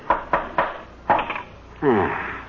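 Hammering nails into a wooden frame, tacking a finished painted canvas onto it: four sharp, solid knocks, three in quick succession and then one more after a short pause, followed by a brief drawn-out tonal sound, like a creak or a voice.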